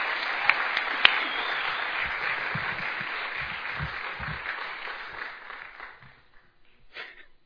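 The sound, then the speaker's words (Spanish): A crowd applauds steadily to welcome a guest speaker at a midday gathering, a dense wash of many hands clapping that holds for about five seconds, then thins and fades out, with a few scattered claps at the end. “así es que vamos a recibirlo con un cariñoso aplauso.”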